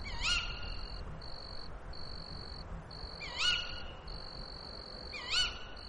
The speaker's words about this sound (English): There's what sounds like a cricket in the undergrowth by the gate.